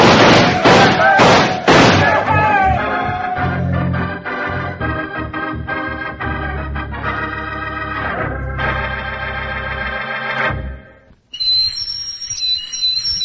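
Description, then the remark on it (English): A busy burst of loud, tonal sound with thumping below gives way to a brief pause, then a shrill, steady high-pitched whistle sounds loud until the end. “That whistle is to remind you that you can own a real operating model of the USS Nautilus, world's first atomic submarine.”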